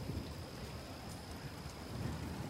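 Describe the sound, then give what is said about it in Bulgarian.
Steady rain falls at night during a thunderstorm at the Orlovo Gnezdo mine between Aytos and Burgas, in a continuous, even hiss with a low rumbling undertone, holding a constant moderate level throughout and no voices present. “Дъждът не спира да вали.”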